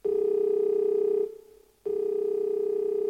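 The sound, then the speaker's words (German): A steady electronic ringing tone from a mobile phone call to someone in Finland sounds loud, pausing briefly for about half a second before resuming, with no voices present. “ruft mit ihrem Handy Leinert an, der in Finnland lebt”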